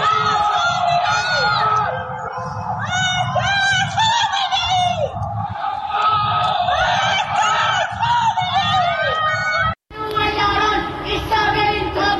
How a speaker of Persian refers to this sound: در یکی از ویدئوهای منتشر شده معترضان از پنجره فریاد مرگ بر خامنه‌ای سر می‌دهند، در حالی که در پس زمینه آتشبازی جمهوری اسلامی به مناسبت سالگرد انقلاب 57 دیده می‌شود.